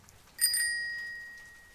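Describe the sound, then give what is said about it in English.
A bright bell rings out with two quick strikes close together, then its clear metallic tone lingers and slowly fades. No voices are heard; the bell is alone against quiet background. “The bell rings.”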